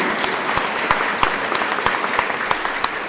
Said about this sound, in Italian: Un applauso.